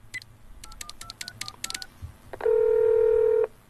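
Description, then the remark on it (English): A rapid string of about ten telephone keypad dialing beeps as a family phones England on Christmas Eve, followed by a single steady tone that holds for roughly a second before cutting off. No one speaks. “So every year at Christmas, what we'd do is we'd have to phone England.”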